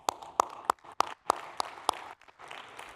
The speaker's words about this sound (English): Somebody was clapping.